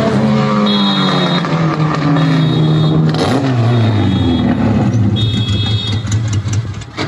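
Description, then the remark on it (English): A car engine revs hard and loud as the car buzzes past a shop, its pitch sweeping up and down, with a steady high whine running through the constant engine noise; it sets off alarms. “And I just, for 30 seconds, just kind of buzz the shop, and we'll play a little shot of it.”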